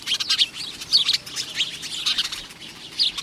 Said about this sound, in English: The name house sparrow fits it well, because from Bangor, Maine to San Diego, British Columbia to the Panama Canal, and even in Hawaii, it's found nearly everywhere people live.